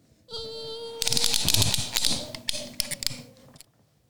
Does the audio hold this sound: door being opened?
yes